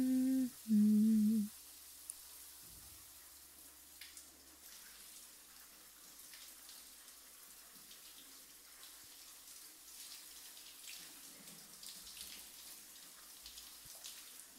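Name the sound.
shower water running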